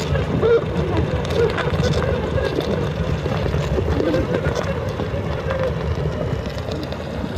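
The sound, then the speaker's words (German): A dense, continuous drone of many honeybees buzzing inside a hive, recorded with microphones placed in a soundproof beehive, a low, steady hum with small shifting flutters and no pauses from start to finish. “Damit hat es den Geräusch der Bienen aufgenommen.”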